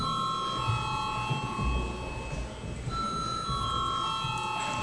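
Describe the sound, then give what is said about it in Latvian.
A steady electronic bell signal rings through a parliament chamber to call deputies to a vote on a bill, holding a sustained tone with a brief shift partway through, over a low murmur of room noise and shuffling. “Lūdzu zvanu.”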